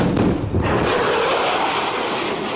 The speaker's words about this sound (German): So hört es sich an, wenn ein Flugzeug mit Überschallgeschwindigkeit fliegt.